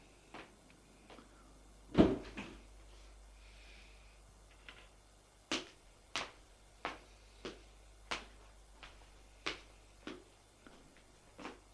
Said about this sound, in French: Et ils entrent dans l'immeuble. Ils vont prendre l'ascenseur. Sortent de l'ascenseur.